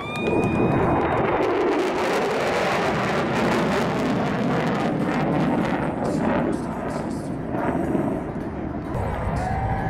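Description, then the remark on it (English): A B-1 bomber jet, the Bone, takes off in afterburner, a loud, thunderous, crackling roar that fills the whole recording without letup, overpowering from start to finish. “Throttle's advancing. Once he goes into burner, that brown smoke will disappear. Right about now, we're into burner, and here we go.”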